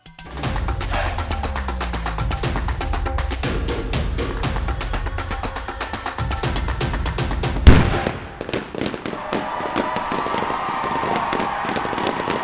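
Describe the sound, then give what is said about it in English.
Fireworks at a grand celebration outside the palace, as Rama became king, crackle and pop in dense, rapid bursts, with a loud bang near the middle followed by continued scattered crackling. “Outside the palace, there was a grand celebration with fireworks and lights.”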